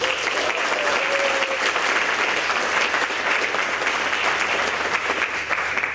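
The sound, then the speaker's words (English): An audience claps steadily to welcome a speaker at an EMF event, a dense, sustained wash of applause that holds at an even, fairly loud level throughout without anyone speaking. “So will you please give a very big EMF welcome for John.”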